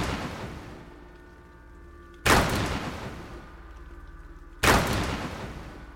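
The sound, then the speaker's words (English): Three heavy, booming knocks pound on a front door at slow, even intervals. Each is a loud, deep thud that rings out and fades before the next. No one speaks. “More like heavy pounding. Slow. Calculated.”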